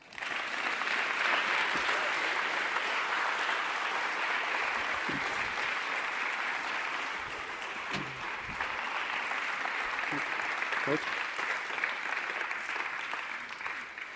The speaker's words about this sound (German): Ein Applaus.